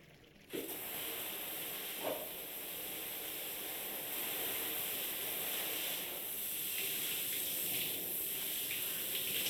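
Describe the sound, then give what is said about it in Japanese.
A shower spray switches on abruptly and runs as a steady, broad hiss of falling water, with faint shifts and splashes as it rinses off shampoo; no one speaks. “それじゃあシャワーで流していくよ。”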